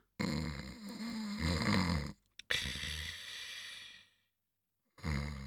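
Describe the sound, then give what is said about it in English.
Loud, rasping snores from someone sleeping: two long, raspy breaths with a brief pause between them, then a quiet gap before a third snore begins. “I'm sleeping, Marie.”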